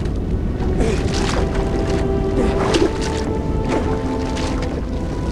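Someone swimming through river water to a rocky shore, with a few splashing strokes over a steady, loud rush of flowing water and low rumble; no voices.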